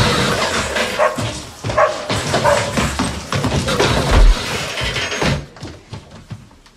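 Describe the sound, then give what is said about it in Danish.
A dog yelps and barks amid a rapid series of heavy thuds and bumps as it tumbles down stairs in a film scene. The clattering is loud for several seconds, then fades to quieter rustling. “Det er den fucking hund. Okay. Ja, det er hunde af trappen.”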